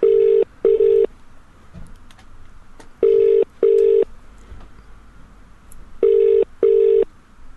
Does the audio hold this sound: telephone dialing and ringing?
yes